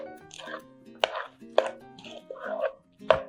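A thick vegan ricotta filling with chopped fresh spinach being mixed in a bowl, with three sharp knocks of the utensil against the bowl between softer, wetter stirring sounds, over a steady tonal background.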